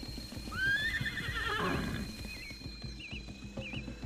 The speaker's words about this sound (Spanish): el hambriento animal empezó a agitarse nerviosamente y a tratar de liberarse tirando con todas sus fuerzas de la cuerda que lo sujetaba para poder aproximarse a la verde pastura. Se movía de un lado a otro relinchando hasta que cayó rendido.